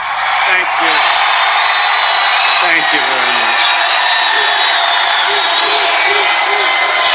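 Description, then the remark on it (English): A large crowd at a Donald Trump rally in Wilmington, North Carolina, roars and cheers without pause as he takes the stage, a loud, dense wall of voices with scattered shouts and whoops rising out of it for the whole stretch. “Get past the music and the roaring crowd.”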